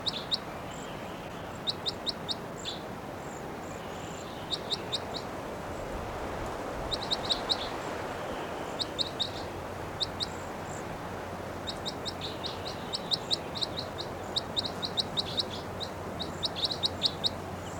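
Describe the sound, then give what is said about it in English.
Two birds call back and forth in quick clusters of short, high-pitched chirps that repeat throughout, over a steady low background hiss. No one speaks. “Both birds are calling, pointing at 698.”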